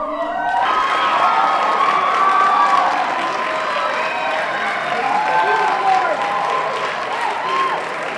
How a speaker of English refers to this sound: The debate began with Bernie Sanders and Hillary Clinton walking onto the stage. From each of the watch party rooms, the students erupted into cheers when Senator Sanders appeared on each projector.